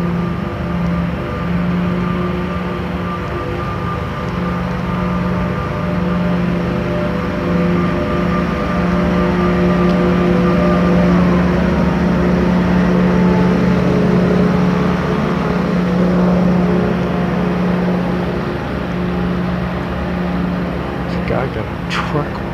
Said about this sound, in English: gigantic vacuum sucking up the leaves. That's what it looks like. That's amusing. A leaf sucker.